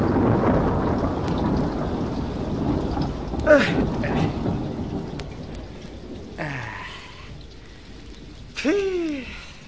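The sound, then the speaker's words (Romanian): Steady rain hisses over a deep, rolling rumble of thunder, with a sharper burst partway through and a few brief whistling sounds near the end. “Și eu mă lungesc sub tine să mă facă ploaia ciuciulitei.”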